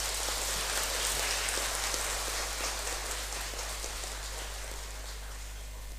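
A sustained wash of audience applause, dense overlapping claps forming a steady crackling roar that holds for several seconds and eases slightly toward the end, with no voices.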